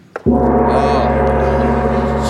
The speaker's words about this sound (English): And the gong tells us that everyone's had enough.